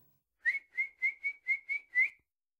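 A kettle boiling water whistles in seven short, shrill, evenly spaced bursts on a high steady pitch, each pulse swelling and fading with a brief gap before the next. No talking.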